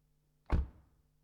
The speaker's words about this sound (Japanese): 激痛の中、車のドアの音が聞こえた。